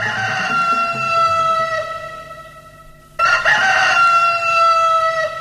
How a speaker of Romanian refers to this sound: Au cântat cocoșii. Am auzit.